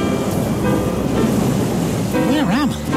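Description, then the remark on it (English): Steady, rushing surf fills the whole clip, a continuous wash of waves breaking on a shore, with a voice rising and falling over it near the end. “I see two naked people relaxing by the sea.”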